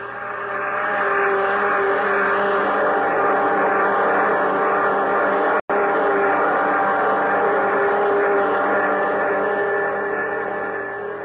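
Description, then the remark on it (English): A spaceship's jet dynamos, driven by the harnessed power of 1,000 suns, roar in a loud, steady mechanical drone with a deep engine hum, broken only by a split-second cut midway, then droning on unchanged. “Those jet dynamos you see before you exist. Jet dynamos driven by the harnessed power of 1,000 suns. Listen, Earthman.”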